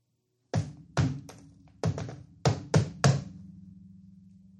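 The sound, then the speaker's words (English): A man knocks a secret knock on a door: six solid knocks in an uneven, deliberate pattern, a pair, a single, then a quicker cluster of three, each thudding loud with a short wooden ring. “And he does this series of knocks.”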